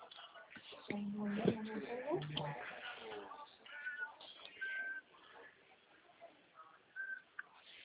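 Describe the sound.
A cat meows a few times in drawn-out, wavering cries, loudest near the start, followed by thinner high-pitched calls, with muffled background voices and room noise underneath.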